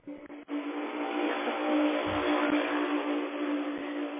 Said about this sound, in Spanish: Es que aquí casi no se oye porque pasa mucho carro y no dejan escuchar bien.